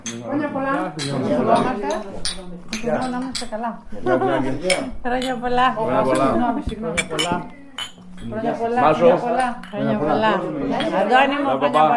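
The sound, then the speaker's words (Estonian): Glasses and dishes clink repeatedly at a table as everyone sits down and clinks glasses, wishing each other a good New Year over traditional dishes, with bright metallic taps of cutlery scattered throughout while several people talk and chatter underneath. “Nüüd istuvad kõik laua taha ja klaase kokku lüües soovitakse oma vahel kõike head, et ees oleks ilus uus aasta.”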